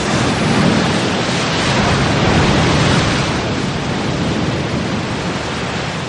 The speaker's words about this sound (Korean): 이어 영화는 파도소리가 들리는 한적한 바닷가에 있는 한 집을 보여줍니다.